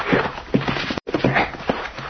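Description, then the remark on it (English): Horses being brought up clip-clop their hooves in a loose, uneven rhythm, hard knocks repeating over a constant background hiss, with a brief silent gap midway. “I brought the horses, boss.”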